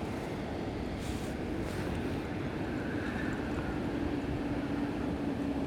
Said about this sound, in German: Ja, und immer wenn man den Wind hören will, kommt natürlich eine S-Bahn.